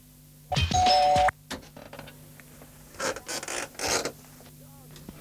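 A loud electronic doorbell chime rings once for about a second, followed by quieter creaks and a few short clattering bursts, like a door being handled.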